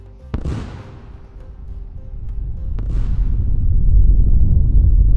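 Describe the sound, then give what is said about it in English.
Two sharp howitzer shell blasts, fired by the Canadian military into the mountains to knock snow off the slopes after a big storm, about two and a half seconds apart, each cracking loudly and then trailing into a deep, rolling rumble that swells and grows heavier toward the end. No voices. “For 60 years, the Canadian military has fired howitzer shells into the mountains to knock snow off the slopes after a big storm.”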